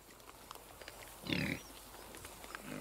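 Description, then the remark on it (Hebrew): A single short, rough grunt from a collared peccary, a pig-like animal, bursts out midway, moderately loud, set against quiet background rustle with a faint low rumble near the end. “המקרה הכי מפורסם נוגע לפקארי. פקארי מגוון, זה נקרא המין הזה ספציפית. דומה לחזיר, אבל לא עד הסוף חזיר.”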